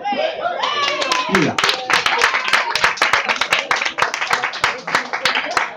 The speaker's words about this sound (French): C'est pas une première goguette, on applaudit normalement. Avec un enthousiasme mesuré.